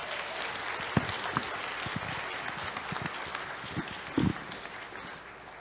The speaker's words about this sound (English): Let's give another round of applause to our graduates.